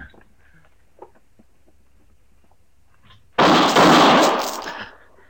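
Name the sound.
gunshot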